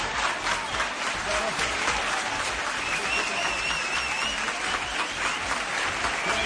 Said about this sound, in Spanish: recorre el edificio y los aplausos no cesan en ningún momento.